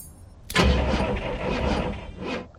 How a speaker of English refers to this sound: In his car, Mickey puts a stack of lost dog posters on his passenger seat, then turns the key.